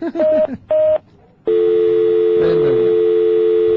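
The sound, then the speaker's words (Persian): Two short beeping telephone tones sound in quick succession as a caller is put on hold on line three, then after a brief pause a steady, loud dial-type line tone drones continuously, with faint talk murmuring underneath. “باشه گوشی رو داشته باش، من میزنم رو حال. بچه ها تلفنش رو بگیریم. خط سه.”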